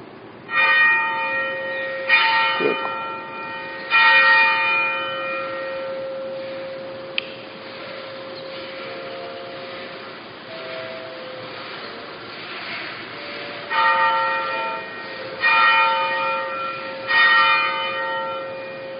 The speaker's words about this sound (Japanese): 二つ教会の鐘を鳴らします。どっちかはタビラ教会の鐘です。どっちがタビラ教会の鐘でしょうか。二つ鳴らします。一分ちょっとあります。